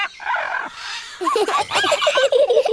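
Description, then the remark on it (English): Harsh, raspy squawking from a parrot in the jungle, a noisy burst followed by a rapid run of shrill, chattering calls, loud. “There are parrots, monkeys, and everything.”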